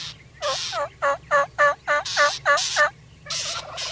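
A wild turkey gobbler gobbles from down in a creek bottom during a turkey hunt: a loud, rapid rattling burst of about nine throaty, warbling pulses lasting a few seconds, over a steady low background hum with no talking.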